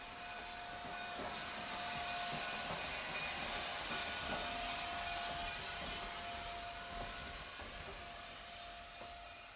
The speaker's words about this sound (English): And the train always coming, and little Nell always screaming, and the train always coming, and some Mountie always saving her.